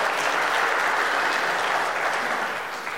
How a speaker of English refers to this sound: I think we should put our hands together and just give a warm congratulations to our FBC soccer team, who won against Bosmont yesterday 11-10. Let's just give them a hand of applause.